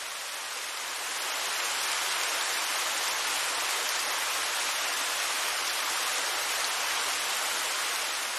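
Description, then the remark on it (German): A steady, hissing rush of falling water, like a waterfall, fades in over the first second and then holds at an even, broad roar with no voices. “Der Wasserfall kann dich bei deiner inneren Heilung unterstützen.”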